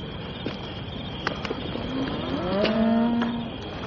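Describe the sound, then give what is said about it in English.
A herd of about 1,500 cattle on a cattle drive moo over a steady outdoor din, one long drawn-out low moo swelling in the second half, with scattered clicks and knocks like hooves or gear around it. “A herd of cattle can't be compared to a girl.”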